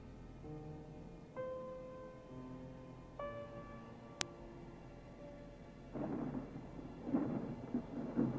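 Stormy waves crash on a rocky promontory where a large, isolated beach house sits, in heavy, rumbling surges during the last few seconds, following sustained musical tones and a single sharp click; the roar swells loud with no voices.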